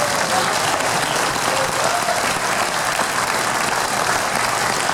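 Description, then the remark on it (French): Steady, dense applause from an audience fills the whole stretch, a loud, even wash of many hands clapping with no pauses or voices standing out. “Merci d'applaudir aussi Leslie Lewis et Jeanne Meran, s'il vous plaît.”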